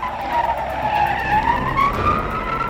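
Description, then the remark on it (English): Car tires screech in one long, continuous squeal whose high pitch dips and rises, over a low rumbling engine, as the car is driven fast and wildly, taking corners at breakneck speed. No one speaks. “And then he roars off down the road, driving wildly, taking corners at breakneck speed.”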